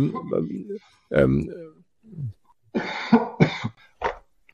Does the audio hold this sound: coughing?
yes